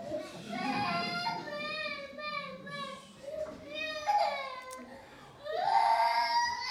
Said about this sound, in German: Andere Laute, Babys.